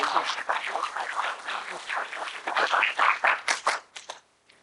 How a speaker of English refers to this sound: Give Lord a hand clap of praise.